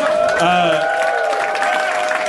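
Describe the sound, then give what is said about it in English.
A loud, dense burst of audience applause, steady clapping mixed with crowd cheering and a few sustained whoops, filling the whole moment without pause. “Everything sounds horrible when it's followed by applause like that.”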